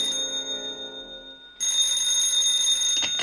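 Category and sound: signal or alarm, telephone bell ringing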